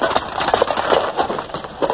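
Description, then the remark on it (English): Steady, rhythmic footsteps approach on a hard floor, fairly loud, each step a sharp knock in quick succession with no voices over them. “But hist, methinks I hear his kingly footsteps.”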